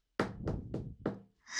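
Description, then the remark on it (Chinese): Four firm knocks on a door in an even, steady rhythm, fairly loud, followed by a short higher-pitched tone as the knocking stops. “此时敲门的声音响起了，”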